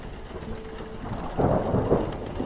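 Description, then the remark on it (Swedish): A low rumble of thunder rolls in over a lake and swells to a louder peak partway through, over a steady hiss of falling rain. No one speaks. “Åskan var på väg att rulla in över sjön.”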